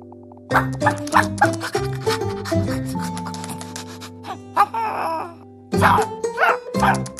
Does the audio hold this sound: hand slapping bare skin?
no